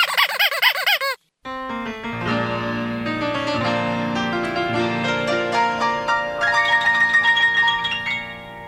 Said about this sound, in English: Chicken.